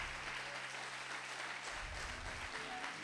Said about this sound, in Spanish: Aplaudí.